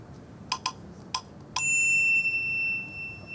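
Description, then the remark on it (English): Three or four quick, light metallic taps, then a bright bell rings out clearly and hangs in the air with a long, shimmering decay, from an ESP training game app on an iPhone that rings when the player gets a hit. No one speaks. “and it rings the bell when you get a hit.”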